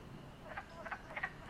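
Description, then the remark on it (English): Wood frogs croak in a quick series of short, clucking calls, about three bursts in a row, moderately faint against a soft outdoor background with no one talking. “Can you hear the wood frogs?”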